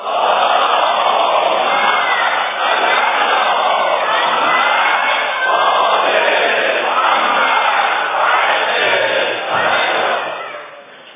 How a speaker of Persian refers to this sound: انقدر من دوست دارم وقتی بناس صلوات بفرستیم میدهی هممون با هم با فریاد صلوات بفرستیم که حتی حساب نداره، روم نمیشه بگم.